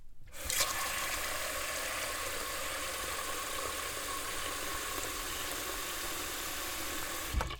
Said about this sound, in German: Füll doch schon mal Wasser in den großen Topf, den du in der Hand hältst.